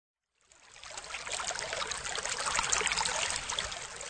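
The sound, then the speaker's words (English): River water flowing steadily, a continuous rushing, bubbling wash that fades in quickly after a brief silence and stays even throughout, with no voices. “Jason crossed the river slowly. It wasn't easy. He lost one of his sandals in the water.”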